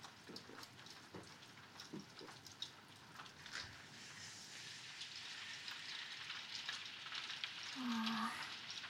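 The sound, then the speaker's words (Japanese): Steady rain hisses and patters, thickening into a denser downpour partway through, with a brief low hum rising near the end. No one speaks. “さっきより雨強くなってる気がする。”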